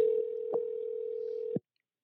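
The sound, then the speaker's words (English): A steady, buzzy telephone dial tone hums for about a second and a half while a phone call is being placed, broken by a few faint clicks, then cuts off abruptly into silence. “We're calling Michelle.”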